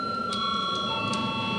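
parliament voting bell ringing

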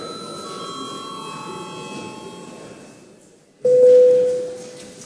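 parliamentary session bell ringing

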